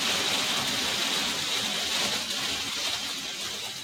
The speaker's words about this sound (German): Jetzt regnet es hier sehr heftig. Weiß nicht, ob man das hört.